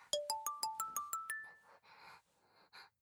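phone ringtone ringing

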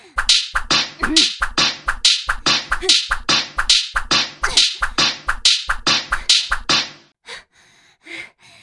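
whip lashes striking skin

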